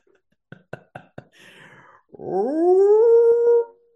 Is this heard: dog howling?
yes